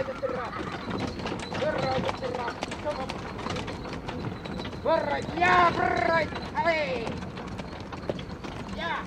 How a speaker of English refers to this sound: while I, for my sins, decide to ride in the back of a buggy drawn by 2 dray horses and driven by a couple of crazies.